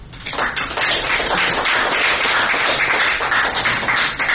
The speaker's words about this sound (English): But let's give you a welcome and applause.